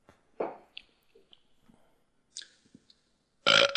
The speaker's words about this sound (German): Ich kann einen Schluck Bier trinken und rülpsen, warte. Oh, kannst du das?